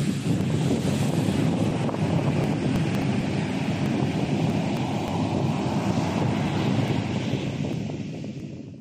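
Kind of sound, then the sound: nature, ocean waves and wind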